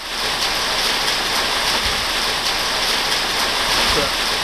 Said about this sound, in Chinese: 西屋顶上的雨声对于汤姆·伊斯特莱克来说就是悦耳的音乐。在他位于新州西南部样镇的樱桃农场，寒冷潮湿的天气预示着丰收。